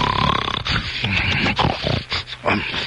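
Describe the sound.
A voice on radio station 62 WTMT mimics loud, rasping snoring, a series of harsh snorts and wheezing breaths in uneven bursts, with no words spoken.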